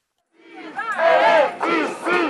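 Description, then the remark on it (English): A large crowd of protesters in France, demanding the government cancel its retirement reform plan, chants loudly in unison, voices rising together in three strong, rhythmic shouted phrases that swell and briefly dip between them. “In France today, strikes and protests across the country brought hundreds of thousands of people to the streets.”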